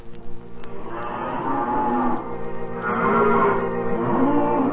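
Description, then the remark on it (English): Cattle on the grazing land of the Great Plains moo in long, drawn-out calls that overlap one another, like a herd lowing together. The bellows are fairly loud, rising in waves over a steady rumble, with no talking. “Cattle what's grazing up there fetch a better price.”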